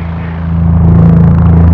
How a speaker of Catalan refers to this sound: L'endemà ens van venir a buscar uns municipals vestits de gala i ens van acompanyar al camp de futbol del Girona, on al mig de l'estadi hi havia un gran helicòpter que ens havia de portar a l'encontre dels nostres somiats i desitjats Reis Mags.